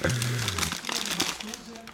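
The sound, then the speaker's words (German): Continuous crinkling and rustling of a small plastic bag as a person with eyes closed reaches in and rummages inside it, feeling a salt-crusted candy pacifier, with brief voice sounds in the background. “Willst du mal Augen zu machen und reingreifen? Es ist eine kleine Tüte.”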